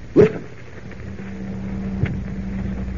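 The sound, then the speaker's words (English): The fan of a huge wind tunnel at an aircraft plant, where new plane models are tested, starts up and spins in reverse, its low, steady mechanical hum building in after a brief sharp noise and droning on evenly, with a faint click partway through. “Professor, that fan is starting up.”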